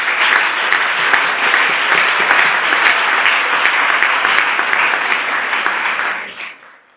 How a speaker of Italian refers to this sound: Accogliamo un applauso e ringraziamo già.